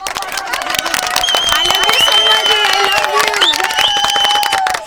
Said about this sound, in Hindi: एक बार जोरदार तालियों से स्वागत किया जाए इनका।